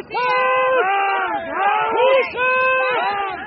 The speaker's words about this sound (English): Cheering for the Super Bowl champs, fans wore blue and gold.